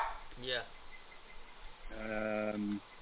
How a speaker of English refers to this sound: Is that your puppy dog in the background? Yeah, I'm sorry about that.